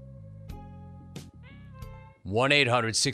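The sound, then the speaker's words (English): A cat lets out a loud, drawn-out meow, rising and falling in pitch, after a couple of seconds of quieter, steady tonal sounds in the background. “How do you diagnose whether or not a cat is bipolar?”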